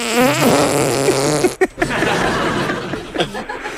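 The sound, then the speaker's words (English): A squelchy, fart-like tune made by pressing a hand against an arm, imitating a phone ringtone with a warbling, rising and falling pitch, followed by scattered flappy bursts. “Oh, is that your phone ringing?”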